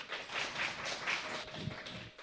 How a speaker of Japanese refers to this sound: ありがとうございました。改めて拍手をお送りいただきたいと思います。